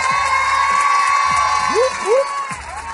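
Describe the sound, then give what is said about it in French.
A live audience at a public broadcast of the MFM Radio Session Live radio show cheers and applauds, a dense wash of clapping and crowd noise with rising whoops and shouts cutting through, steady and loud for the whole stretch. “Je vous l'avais dit, hein, le premier samedi de février, ce sera un samedi tout à fait spécial, particulier, puisqu'on va faire une émission en public. Nous y sommes, le public est là.”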